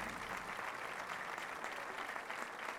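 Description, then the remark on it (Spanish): Steady, sustained applause from a crowd at a Carlos V event, given for Antoine, who could not attend: a dense crackle of many hands clapping at an even loudness throughout, with no voices standing out. “En primer lugar, yo quiero pedir un fortísimo aplauso para Antoine, que no puede estar por primera vez con nosotros en un Carlos V.”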